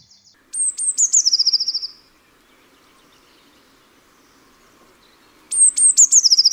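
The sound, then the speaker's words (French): Two bursts of a blue tit's song, each a few thin, high introductory notes running into a quick descending trill, clear, separated by a few seconds of quiet. “Il s'agit de la mésange bleue, dont je te parlerai demain.”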